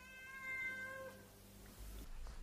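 A single drawn-out cat meow, clear, its pitch sliding gently downward before fading, followed by quiet background noise and a brief loud thump right at the end.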